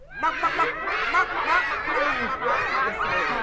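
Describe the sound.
A person imitates monkeys with a continuous stream of rapid, high-pitched chattering and squeaky hoots, loud and sustained for several seconds with no pauses for ordinary speech.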